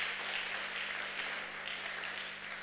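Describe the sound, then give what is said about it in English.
An audience claps steadily, a dense wash of many hands blending into continuous applause that stays fairly even, with no voices standing out. “I think you should be clapping.”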